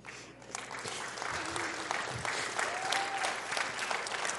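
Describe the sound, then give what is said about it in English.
Sustained applause from an audience asked to stand up and clap for a woman, a dense wash of many hands clapping at a steady, fairly loud level, with a faint murmur of voices mixed in. “Yeah, will y'all just stand up and clap for her?”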